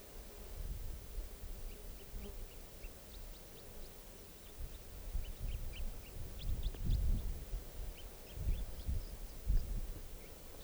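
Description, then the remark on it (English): A wild bird calls with a scattered series of short, thin, high chirps over a steady low outdoor rumble. No one speaks. “And this is song now, that wild bird calls there.”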